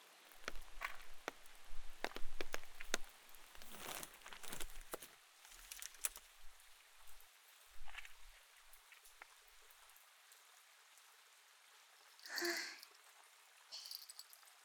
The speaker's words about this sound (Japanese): 雨か。